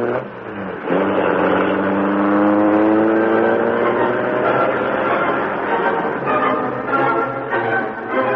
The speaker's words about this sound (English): The door slammed, the motor roared. As the great car leaped forward, a section of the wall slid up on oiled hinges, and the Black Beauty rushed into the darkness and the night.